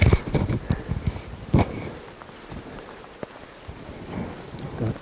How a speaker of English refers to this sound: It's raining quite strongly here.